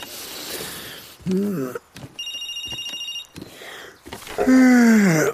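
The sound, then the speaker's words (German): A telephone rings with a steady, trilling bell for about a second, set between stretches of loud, strained voices calling out before and after it. “Kannst du rangehen, Liebling? Elektra? Elektra? Oh, scheiß Telefon.”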